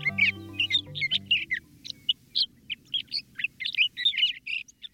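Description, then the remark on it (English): A male sage thrasher sings a long, continuous warbling song of rapid varied phrases, proclaiming his territory in spring sagebrush of the American West; loud, with a low droning hum underneath at the start. “A male sage thrasher is proclaiming his territory.”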